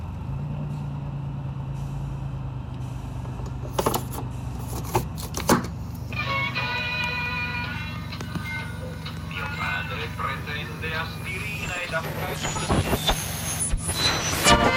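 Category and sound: vehicle, car driving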